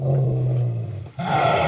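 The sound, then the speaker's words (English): A dog growls deeply and continuously for under two seconds, breaking briefly before a harsher, raspier snarl resumes. Loud and aggressive, with no voices present. “That dog sounds angry.”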